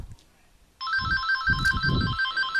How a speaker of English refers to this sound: Hold on, I got a phone call. Let's see who it is.